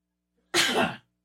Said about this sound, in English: Sneeze. Gesundheit.